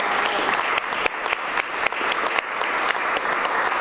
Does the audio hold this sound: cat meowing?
no